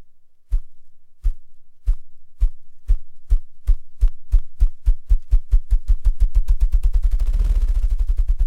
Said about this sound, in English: But wait, is that the far-off drumming of a grouse?